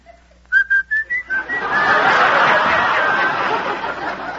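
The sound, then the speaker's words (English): A person whistles through pursed lips a short run of five rising tonal notes, clear, then breaks into breathy laughter that fills the rest of the moment. “Now you purse your lips like this. Like this? No. Like this. As if you were going to whistle.”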